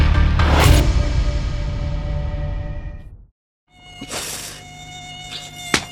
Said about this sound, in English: I don't know what to do about these mosquitoes anymore. With all the dengue fever and malaria they're carrying.